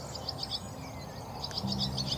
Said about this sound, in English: I mean, the birdsong here is amazing. We're mid-morning in April, and it's just a cacophony of birdsong.